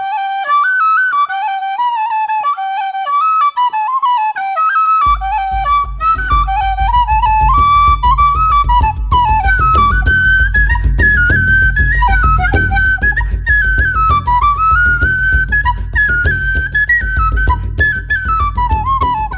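A tin whistle plays a lively, ornamented traditional melody, alone for the first few seconds before a steady low accompaniment joins underneath; no one speaks.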